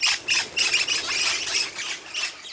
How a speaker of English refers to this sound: I love the sound of chiming crimson rosellas.